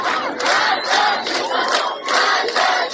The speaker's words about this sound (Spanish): Protestas en las calles, en las universidades, contra el régimen iraní, en las que se escuchan gritos de muerte al dictador y el eslogan «Mujer, vida, libertad».